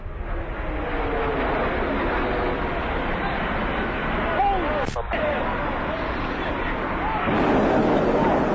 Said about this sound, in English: That was an explosion. That was an explosion.